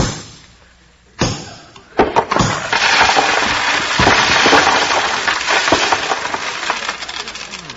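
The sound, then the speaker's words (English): A big, heavy nail, like a railroad spike, is hammered into a plaster wall with a few sharp, loud knocks, then the wall crumbles, leaving a great big hole, in a long, rattling cascade of falling plaster bits that slowly thins out. “Ozzy, for goodness sakes, you knocked a great big hole in the wall.”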